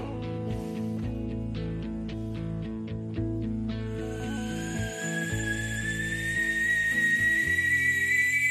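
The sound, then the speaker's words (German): Over steady background music with rhythmic ticking, a kettle of water heated over a fire begins hissing with steam about halfway through, a loud breathy rush joined by a high whistle that slowly climbs in pitch. “Richtig heißes Wasser wird nämlich zu Dampf.”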